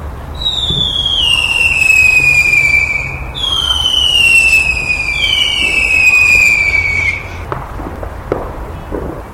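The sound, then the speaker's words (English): Two long, shrill whistling rockets scream and slowly drop in pitch one after another, followed by a few sharp crackling pops as the fireworks burst. “Let the fireworks begin.”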